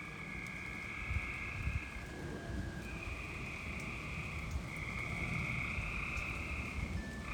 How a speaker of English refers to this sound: This is the sounds of frogs from my backyard. I stepped outside just last night and to help my dog out, And this is what we encountered. I was so surprised by the overwhelming sounds of this.